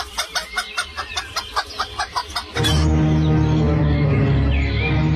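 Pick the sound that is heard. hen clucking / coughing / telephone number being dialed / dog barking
hen clucking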